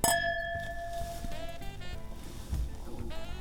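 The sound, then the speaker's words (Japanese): Wine glasses of Château Sakaori Winery's Koshu Dry 2022 white wine, chilled to about 10 degrees, clink together once in a toast, a bright ring that lingers and slowly fades, followed by soft murmuring and movement in the background. “はい、では乾杯。”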